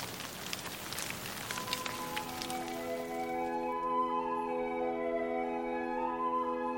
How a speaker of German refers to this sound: Es brachen die Brunnen der großen Tiefe auf und die Fenster des Himmels taten sich auf und ein Regen kam auf Erden.